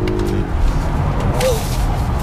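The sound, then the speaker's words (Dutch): A Polar One car accelerates hard, a loud, steady low roar of engine and road noise filling the cabin, with a brief whine rising over it partway through. No one speaks. “Oh, even accelereren hier.”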